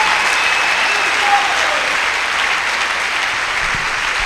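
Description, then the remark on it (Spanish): Sustained applause from an audience giving a hand to the Lord, a steady dense wash of many hands clapping at an even, loud level throughout, with no speech over it. “Y el alma generosa, dele un aplauso al Señor, porque va a recibir la sanidad de su alma.”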